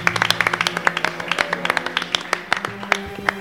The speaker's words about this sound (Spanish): Por lo cual pedimos un gran aplauso para ella.